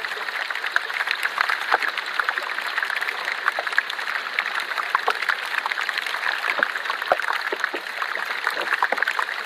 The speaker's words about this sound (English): So then when we pop that piece of ice in water and it starts melting, and the gas just starts bubbling out of that and generates a little bit of fizz in the ice.